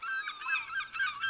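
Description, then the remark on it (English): Seagulls call repeatedly, a run of overlapping, nasal cries rising and falling in quick succession, moderately quiet, with no voices present. “There are seagulls, waves, and the creaking of a ship.”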